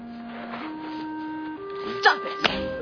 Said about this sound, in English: We just shot slaps wherever we were.